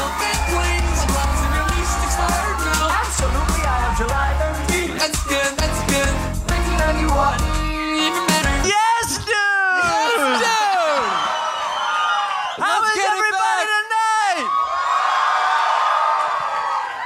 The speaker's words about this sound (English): Holy shit, man. Who got the bigger applause, dude? Everybody wants to know.